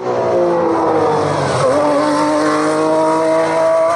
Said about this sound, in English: And here's F1 again.